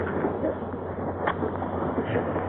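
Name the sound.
lightning strike and thunder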